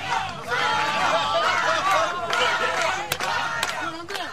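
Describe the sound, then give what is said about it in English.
A large crowd at the Chilean mine rescue cheers and chants the name of miner Mario Sepulveda as he comes up the 2,000-foot rescue shaft, a dense, continuous roar of many voices, with a couple of sharp clicks near the end. “The crowd broke into cheers and chanted his name.”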